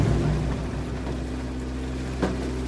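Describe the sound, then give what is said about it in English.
A fishing boat reverses on a lake as its net pays out over the side back into the water; the engine rumbles steadily at low pitch with a droning hum and surrounding water noise, and a short clunk or splash sounds near the end. No one speaks. “A weight and a marker buoy have just gone overboard, and now they will reverse the boat and the net will pay off over the side of the boat back into the water.”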